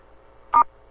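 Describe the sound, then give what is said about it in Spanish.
A single short phone keypad tone beeps once, clear, over a faint low background hum, with no one speaking, as star six is pressed to open the phone line for a call-in question. “Si quieren, las personas podemos abrir la llamada, opriman asterisco 6.”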